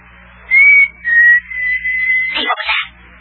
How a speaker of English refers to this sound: What? Did you hear a whistle? Sound like a signal.